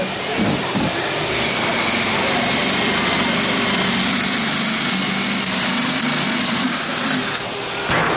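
A power drill whines steadily for several seconds, a loud, continuous high-pitched motor drone with a grinding edge as a spade bit bores into wood, no talking.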